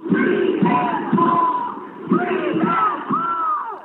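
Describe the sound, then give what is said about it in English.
A large crowd of protesters confronting ICE agents during immigration raids near a Home Depot where day laborers gather chants "Free them all" in unison. Many voices shout the short repeated phrase in a steady rhythm, loud and continuous throughout with no other sounds standing out. “Here you can hear them chanting, "Free them all."”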